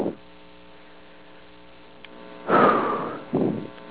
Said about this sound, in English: There goes the washing machine. Washing my clothes. Because they're dirty. And I like them clean.